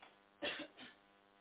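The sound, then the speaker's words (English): A single muffled cough made away from the phone, quiet, followed by a softer second burst, with faint background hiss and no talking. “I didn't want to cough in the phone.”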